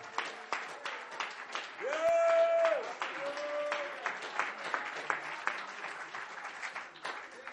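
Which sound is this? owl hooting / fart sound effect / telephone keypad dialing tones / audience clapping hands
audience clapping hands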